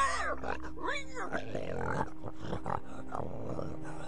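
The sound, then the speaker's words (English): A pig grunts and oinks repeatedly, a busy stream of nasal snorts and rising squeals running loudly through the whole few seconds without pause. “He was reportedly killed by a rabbit, while Philip, son and heir of Louis VI of France, was consigned to an early grave by a diabolical pig.”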